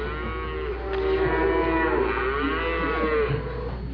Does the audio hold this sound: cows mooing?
yes